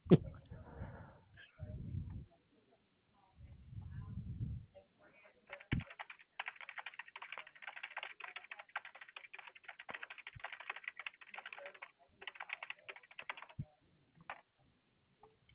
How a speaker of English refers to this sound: I'm just getting this typed up. Oh, no worries. No worries. I can hear the keyboard.